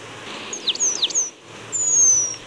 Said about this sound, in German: Und das ist dann doch bemerkenswert, weil die Beutelmeise, unser Vogel der Woche, doch schon sehr selten hier in unserer Gegend ist. Und am ehesten hört man sie, denn sie hat ein ganz ungewöhnliches Stimmchen.